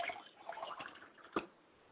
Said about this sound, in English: I pour libations to the east and I say, Ashe.